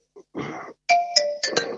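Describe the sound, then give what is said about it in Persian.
A telephone rings with a short electronic ringtone, a few bright chiming tones in quick succession, clear, after a brief soft rustle. “ببخشید این تلفن داره زنگ میزنه.”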